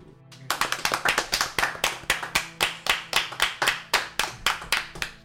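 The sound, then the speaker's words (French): Hands clap repeatedly in a fast, fairly even, crisp rhythm after a brief quiet start. It sounds like one or a few people applauding, with no talking. “Veuillez applaudir Lady Lococo.”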